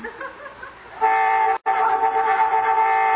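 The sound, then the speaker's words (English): A loud, steady horn blares in two long blasts, the first briefly cut off before the second sounds on without a pause, rising over a quieter rumbling background. “Boy, I hate honking during smooching.”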